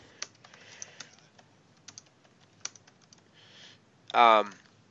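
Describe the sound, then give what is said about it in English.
Irregular tapping of computer keys clicks along in uneven bursts for several seconds as a person types in a chat while talking, then a short vocal sound cuts in near the end. “I got to stop typing in the chat when I'm talking.”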